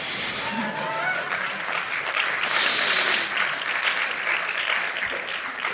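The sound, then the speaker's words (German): An audience claps steadily throughout, a dense wash of many hands at a fairly even loudness, swelling slightly in the middle before settling, with no voices standing out. “Möchte jemand klatschen?”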